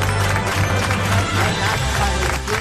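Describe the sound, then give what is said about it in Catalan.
An audience applauds loudly to send off two athletes who are leaving to train, in a dense, steady burst of clapping that holds at a fairly loud, even level for a few seconds, with a faint crowd murmur mixed in. “Anem a, amb un fort aplaudiment a acomiadar els dos atletes que se'n van a entrenar.”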